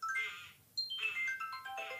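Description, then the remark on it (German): A short, bright electronic opening-theme jingle of chiming synth notes plays in quick melodic phrases, with a brief pause partway through, clear with no one talking. “es gibt so einen TikTok-Trend, da zeigen Eltern diesen Anfangssong”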